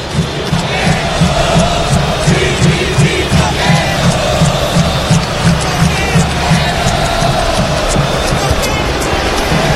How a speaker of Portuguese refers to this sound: Tome vaia.